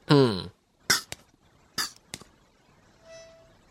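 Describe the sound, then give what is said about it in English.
Two short, hissing puffs from an inhaler being pumped, each followed by a quick click, coming after a brief voiced grunt. A faint high tone lingers near the end. “I heard the little poof poof.”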